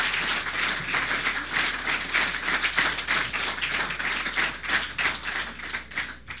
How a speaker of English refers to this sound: If you did, let's give them another great big round of applause.